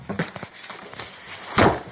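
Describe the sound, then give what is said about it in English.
A woman closes a door. After some light shuffling and clicks, it swings shut near the end with a brief squeak and a solid thud. No one speaks. “So she smartly closes the door.”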